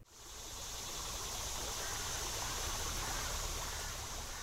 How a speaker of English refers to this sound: Skull Creek in Midtown Fayetteville flows freely following a late summer shower. This creek, like Mud Creek and others throughout northwest Arkansas, is bordered by bike trails that will be part of the Razorback Regional Greenway.